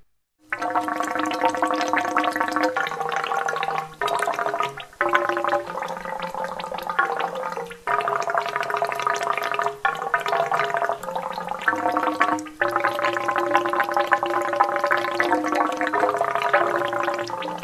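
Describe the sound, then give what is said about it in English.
A bubble organ, a musical instrument built by Aaron Wendell from pieces of old furniture, wood and rain gutters, plays sustained, gurgling tones with a watery bubbling texture, stepping between pitches in a slow melody broken by short pauses. No one speaks. “The bubble organ is a musical instrument built by Aaron Wendell, and is made out of pieces of old furniture, wood and rain gutters collected from the alleys and dumpsters around his apartment.”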